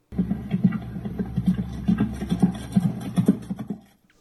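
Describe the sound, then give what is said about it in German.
A horse gallops straight ahead with heavy, thudding hoofbeats in a steady rolling rhythm, fairly loud, the pounding stopping abruptly near the end. No voices are heard. “Das Pferd galoppiert im Endeffekt geradeaus, also es ist gar keine Lektion, die es macht.”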